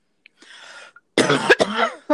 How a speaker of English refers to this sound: Jeez, I wish my cough would go away. Sorry, everybody. Hopefully it will go away soon.